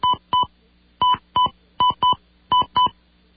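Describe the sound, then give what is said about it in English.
Touch-tone phone keypad beeps as a password is dialed into a phone mail system: eight short, clear tones in quick pairs with brief pauses between, steady, with no voices. “If this is correct, dial your password and then push enter or pound.”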